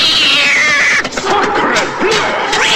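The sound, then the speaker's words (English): A cat, O'Malley from The Aristocats, yowls loudly as he leaps onto a blue milk van's bonnet, a long, wavering cry that rises and falls, with a few harsh, strained bursts through its nearly three seconds. “Sapristi! Stupid cat! Brainless lunatic!”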